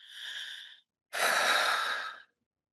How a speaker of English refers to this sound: Okay, so I feel like I'm breathing more deeply.